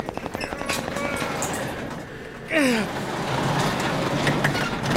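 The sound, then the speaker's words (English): A garage door is hauled open by two people lifting it together, with a lot of snow around it: after some thumping, a sudden metallic screech gives way to a steady, rattling rumble of the door rolling up, which grows slightly louder toward the end. “We have to lift this garage door together.”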